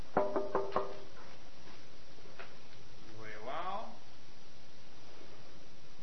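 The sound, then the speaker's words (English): Four quick, sharp knocks in a rapid row on a pretend door, a demonstration of door knocking, distinct, followed by quiet room tone and a brief murmur of a voice. “So let's pretend this is a door, and I walk up to it.”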